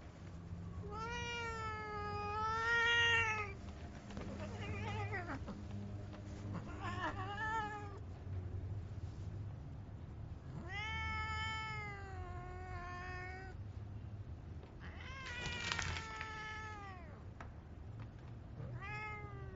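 A cat meows repeatedly, about five drawn-out, wavering cries with short pauses between them, over a low, steady background hum.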